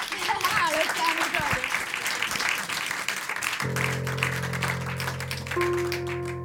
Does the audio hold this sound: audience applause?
yes